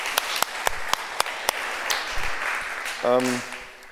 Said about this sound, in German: Ja, also übrigens mal ein Applaus an alle Mütter, die jetzt gerade da sind und den Raum verlassen.